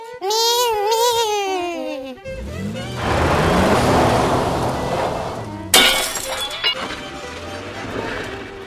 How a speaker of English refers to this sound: Holy shit, we rolled the truck